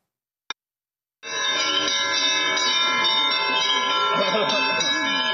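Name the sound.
church bells ringing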